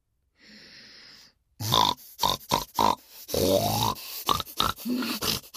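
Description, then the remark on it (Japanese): A person imitates a pig, making a rapid run of loud snorting grunts in quick bursts after a brief breathy sniff, with no speech. “豚真似はこうやるんです。”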